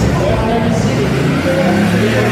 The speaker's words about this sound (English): That's the V8 running of the number 27 LM GT3 car, putting it through a heat cycle by the sound of things in the background.